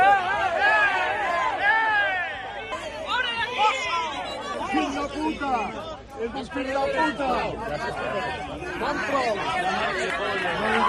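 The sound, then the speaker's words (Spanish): A crowd of many voices shouts and yells insults over one another in a street, a dense, agitated din with raised angry outbursts rising and falling throughout, loud and continuous, with slaps on a helmet. “Y bueno, poco a poco, bueno, pues empiezan los gritos, los insultos, manotazos en el casco, escuchen.”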